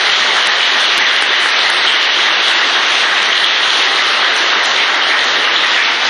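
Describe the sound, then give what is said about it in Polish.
A crowd applauds a young artist steadily, a dense, loud wash of many hands clapping that holds at an even level for about six seconds with no voices over it. “Szanowni Państwo, brawa jeszcze raz dla młodego artysty.”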